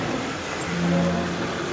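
A car engine hums steadily as the vehicle rolls up and settles into a stop, parking in front of an entrance gate, with a low rumble and faint road noise and no voices.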